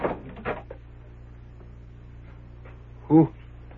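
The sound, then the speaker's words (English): A door opens with a brief, fairly loud creak near the end, preceded by a few soft thuds and rustles over a low steady hum. “Come in, the door's open.”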